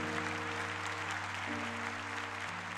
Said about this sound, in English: Clap your hands and say, no shame, no shame, no shame.